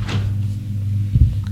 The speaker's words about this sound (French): Galien entre. Il ferme la porte.